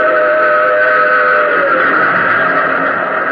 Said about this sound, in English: A rumble filled the air. And just as I reached the rail bed, I saw the tunnel hewn out of mountain rock. And plunging from the tunnel's mouth, like some black, terrible monster, roared a train. It tore by me in a deafening roar.